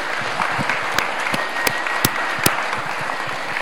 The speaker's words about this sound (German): Die Fahnen werden geschwenkt. Und auch hier einen großen Applaus, bitte.